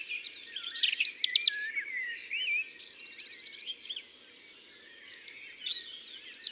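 A European robin perched fairly high in an oak tree sings alone, a stream of high, thin, musical warbles and trills that keep changing, briefly quieter in the middle before bright phrases return.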